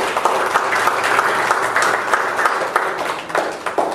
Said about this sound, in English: Give the Lord one more hand of applause.